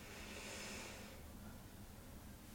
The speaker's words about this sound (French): J'expire, l'espace entre mes deux mains se rétrécit. J'inspire, je gonfle. J'expire, je dégonfle. Prendre conscience de sa respiration abdominale.